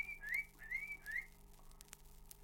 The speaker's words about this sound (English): That's three different whistles. Three different whistles, you see. Three different dogs. Three different dogs driving the sheep away.